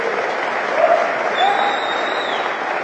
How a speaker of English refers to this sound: So for some of you, this has, can I just get a clap if this has any emotional meaning to you whatsoever?